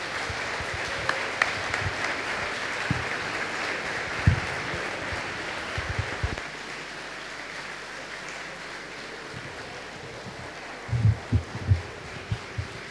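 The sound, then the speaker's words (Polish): A crowd applauds steadily for the whole stretch for guests from Belarus, Ukraine, the Czech Republic, Slovakia, Austria and other countries, a dense wash of clapping with a few louder low thumps near the end; no one speaks over it. “Jeśli słyszycie, to zapraszam, żebyście wstali i proszę o wielkie, wielkie brawa właśnie dla nich.”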